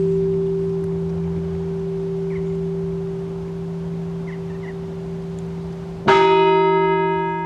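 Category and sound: signal or alarm, monastery entrance bell ringing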